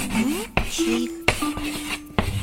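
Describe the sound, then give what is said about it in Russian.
Chalk scratching across a blackboard in short strokes, with sharp taps as it meets the board and brief squeaky tones between the rasps, as dictated words are written during a Russian spelling lesson. No one speaks. “Вот доска, а вот мел.”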